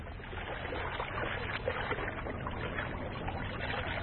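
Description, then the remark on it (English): Steady water washing and churning as a boat carrying Evans and a Chippewyan convert moves along one morning, a continuous rushing sound with a low rumble underneath and small splashes, no voices. “One morning, Evans and a Chippewyan convert were traveling by boat.”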